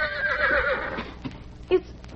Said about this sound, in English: But today, as he entered between the rocks, he heard a different sound. It was the whinny of a horse.